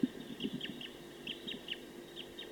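A wild bird in a tree about 50 meters from a bird-netting site calls rapidly, giving a quick series of short, high chirps in an uneven rhythm. A lower clucking note sounds at the start, and no one speaks.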